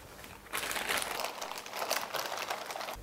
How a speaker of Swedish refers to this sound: Han öppnar en plastpåse, lägger krukan in i den.